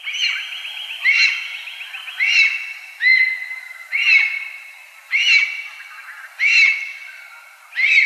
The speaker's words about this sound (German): Das war der Vogel der Woche von Radio Korax in Halle mit der neuesten Ausgabe zum Schreiadler.